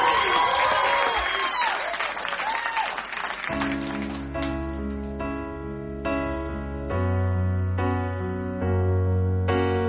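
A crowd bursts into loud applause with cheers and whistles for a few seconds for a singer about to perform, then the clapping fades as music begins with steady, sustained chords.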